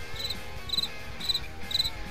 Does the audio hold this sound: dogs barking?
no